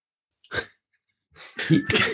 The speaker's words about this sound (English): You can hear the cat, I assume. I can, yeah. But yeah. Sorry about that. I'm at my mother's house and my mother has a cat, and the cat is...